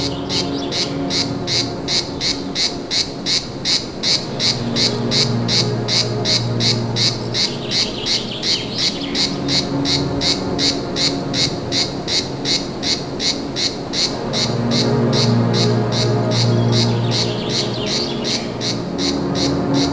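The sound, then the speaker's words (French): A cicada in the Médoc sings loudly and steadily for the whole stretch, a rapid pulsing buzz with a regular rhythm, with a faint low rumble in the background and no talking. “Une cigale dans le Médoc.”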